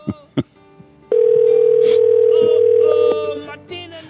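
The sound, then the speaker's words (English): Two faint clicks, then a single steady electronic ringback tone on a phone line that holds for about two seconds and stops, leaving soft line noise. No talking. “Well, she's done one interview so far, so she might pick up the phone.”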